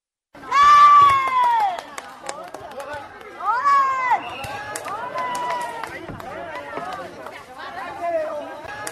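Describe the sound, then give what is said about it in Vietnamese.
Spectators at an air volleyball tournament at three packed courts at the Tân Lập ward People's Committee, Thái Nguyên city, Vietnam, cheer and shout at 8 a.m., opening with a loud, high-pitched burst of voices, then a steady din of many overlapping calls and chatter continuing throughout. “Trong tiếng reo hò cổ vũ không ngớt của các cổ động viên, những quả bóng chuyền hơi màu vàng theo đôi tay khỏe khoắn, khéo léo của các”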